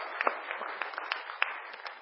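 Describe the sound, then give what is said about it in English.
A crowd applauds performers who have just sung, with dense, overlapping claps forming a steady crackling wash, a few sharper individual claps popping out above the mass at moderate loudness. “Give them a clap.”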